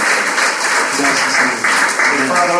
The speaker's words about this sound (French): How about we give the Lord a clap for the Lord? Alors, applaudissons le Seigneur.